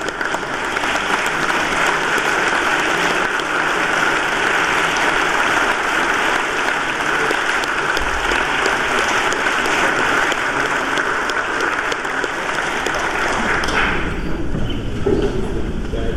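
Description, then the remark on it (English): Sustained applause from legislators thanking the pages during a legislative session, dense steady clapping that holds at an even loudness for about fourteen seconds before thinning out near the end. “Colleagues, please join us in thanking the pages.”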